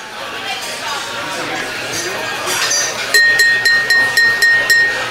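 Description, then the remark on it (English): Glasses clink together repeatedly in a toast, a quick, bright series of rings over the murmur of a chattering crowd, the clinks fairly loud. “Everyone, please, raise your glass with me.”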